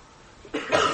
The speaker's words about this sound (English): Someone just coughed at this.